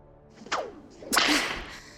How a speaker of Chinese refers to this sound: 来人，把鞭子给我，像那个带倒钩的鞭子。